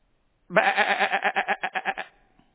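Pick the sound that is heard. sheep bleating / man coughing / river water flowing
sheep bleating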